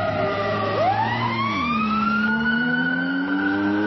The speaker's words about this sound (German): Oder du sagst Sirenen und ein brummender Motor fährt an dir vorbei.